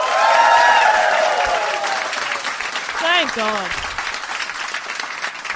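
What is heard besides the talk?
audience applause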